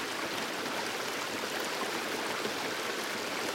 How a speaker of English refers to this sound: Focus on the sound of the water and relax your kidneys. Water trickles over and through your kidneys.